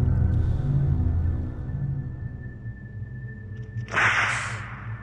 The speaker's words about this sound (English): The whip struck Christie's naked buttock and curled around it in a slither of silk. It stung like a scorpion sting.